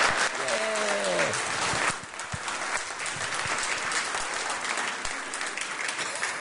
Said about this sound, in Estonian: Aitäh. Aitäh. Teeme aplausi neile.